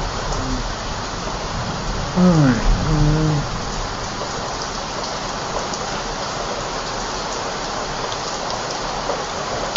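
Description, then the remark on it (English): Steady rain patters down on jungly plants in a south-facing garden surrounded by trees near an estuary, a dense, even hiss that fills the whole stretch, with a brief voice heard faintly early on. “Even the sort of jungly plants, they sort of look right when it's raining.”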